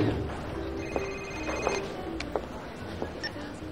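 A telephone rings with steady electronic tones over a busy, murmuring background, the rings moderately loud, with a few faint clicks and knocks scattered through.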